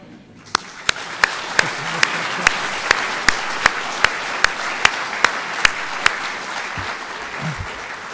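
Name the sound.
audience clapping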